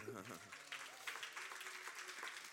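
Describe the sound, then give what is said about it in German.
A crowd claps for the children in a dense, steady patter of applause that carries through the whole moment, with a voice briefly audible at the start. “Die verdienen eigentlich einen Applaus, finde ich, heute unsere Kinder.”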